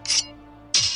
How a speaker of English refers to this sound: Sword.